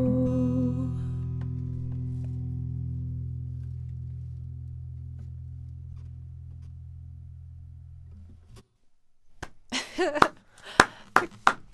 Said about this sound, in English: Clapping.